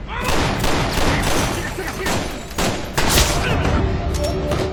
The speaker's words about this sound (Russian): Спецназовцы выбивают дверь, врываются вовнутрь. Начинается перестрелка.